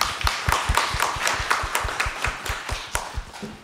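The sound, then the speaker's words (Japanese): An audience at the J-REIT Fan 2020 event in Tokyo claps steadily for several seconds to welcome the president of Takara Asset Management, sharp hand claps falling in a fairly even rhythm over a continuous wash of applause, fairly loud, with no talking. “どうぞ大きな拍手でお迎えください。”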